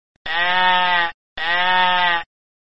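A sheep bleats twice in close succession, two loud, steady baas of about a second each with a brief pause between, with no other sounds.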